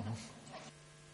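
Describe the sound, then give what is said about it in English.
A group of people hum to vote, a low, steady hum stronger for a moment at the start, then fading to a faint sustained drone for the rest of the short clip. “We can borrow from our colleagues in the IETF and have everybody hum.”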